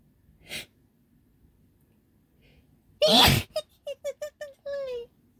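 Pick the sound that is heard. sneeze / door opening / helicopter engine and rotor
sneeze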